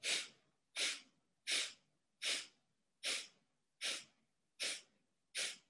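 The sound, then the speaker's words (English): Eight short, forceful sniffing exhalations through the nose, evenly spaced in a steady rhythm, each a quick breathy puff, clear with no talking, done as part of a guided breathing exercise after holding the breath. “And now exhale 8 sniffs.”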